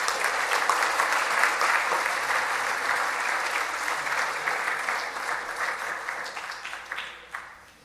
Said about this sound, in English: All right, as they're finding their seat, can we give one more round of applause for all of our graduates?